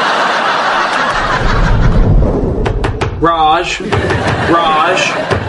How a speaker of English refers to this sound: Stop knocking, it's open.